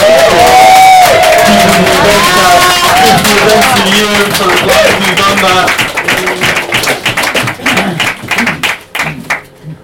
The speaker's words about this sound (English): It's going to be a lot of me now for using part of my minute to do this, but just a huge round of applause there